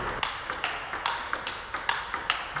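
A rapid, steady volley of a dozen or so crisp, bright pocks, a table tennis ball being hit back and forth at an even rally pace during a division d'honneur match, with no talking.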